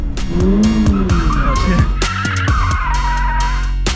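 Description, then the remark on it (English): A car's tires squeal loudly in a sustained, wavering screech as it skids and spins out on a racetrack, with engine noise and rumbling underneath, continuous throughout. “And you start to learn and feel the car so that when you're on a racetrack, you're not overwhelmed when your car starts to skid out.”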